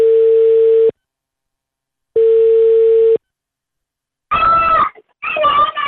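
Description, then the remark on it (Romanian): A telephone ringback tone sounds twice, each steady beep lasting about a second with a pause between, and then a woman answers "Alo!" on the line; the call is to a substitute teacher at a private college in Bucharest, Romania, at home with her two children. “Era acasă cu cei doi copii când am sunat-o.”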